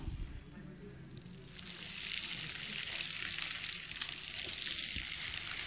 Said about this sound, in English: He used a sand from desert, which is more kind of have ability to flow. We have from Babas Bandara, which means it's an Indian type. But yet, let's take some sand and just pour it in. Interesting the sound. The sound of time.